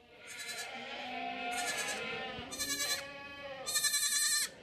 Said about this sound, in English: This is a dairy goat farm. It's kidding time. So 1st of July is the start of kidding, and it will carry on for 6 weeks at least.